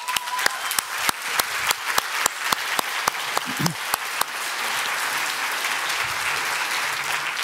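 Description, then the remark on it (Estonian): An audience at an investment festival applauds loudly, sharp regular claps standing out over the crowd's noise for the first few seconds before it settles into a steady, dense wash of clapping. “teeme talle suur aplausi.”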